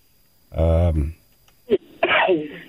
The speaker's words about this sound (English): God bless you. Sorry. I was coughing. Wow. You know, I was going to sneeze off.